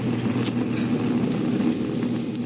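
A steady, droning propeller-plane engine hums continuously at a constant level, with a low throbbing tone and a rushing wash of air, and no voices over it; the plane is 5,000 feet in the air, headed for Palm Springs.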